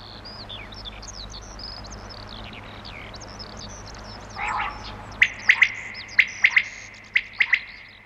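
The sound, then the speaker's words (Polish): A lively outdoor chorus of many birds singing and chirping at once in spring (April–May) during the mating season, with high whistled notes overlapping throughout and a run of sharp, loud repeated calls standing out toward the end. “Ptaki śpiewają, krzyczą, gwar taki jest, że miło jest posłuchać.”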